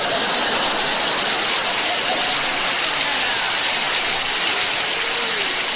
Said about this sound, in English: To hear those garbage trucks in the snow.